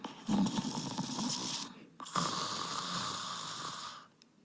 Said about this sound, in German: Stille. Nur aus der anderen Zimmerecke kam leises Schnarchen